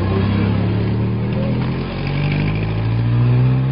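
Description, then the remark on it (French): A Biafran Red Cross truck engine rumbles loudly as it carries cargo along roads crowded with refugees in Biafra, its deep droning pitch dipping briefly and then rising again as it revs, steady throughout with no voices. “Le lendemain de notre arrivée, un camion de la Croix-Rouge biafraise emportait notre chargement sur les routes, encombré de réfugiés.”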